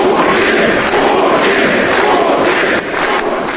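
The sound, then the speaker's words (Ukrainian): A large crowd in a hall at the People's Front organization's congress in Moscow shouts and cheers in unison in support of Putin after the proposal to elect him, a dense, loud, continuous roar of many voices that barely dips for the whole stretch. “Після пропозиції обрати Путіна зала вибухнула вигуками на його підтримку.”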